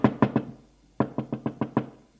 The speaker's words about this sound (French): Il se dirige vers celle d'Arthur. Frappe à la porte.